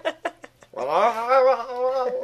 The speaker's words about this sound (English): Look at that talking cat.